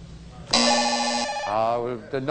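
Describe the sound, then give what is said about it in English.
A quiz show answer buzzer sounds once, a loud, steady electronic tone lasting under a second, followed by a person starting to speak. “No, I'm sorry. The buzzer hit first.”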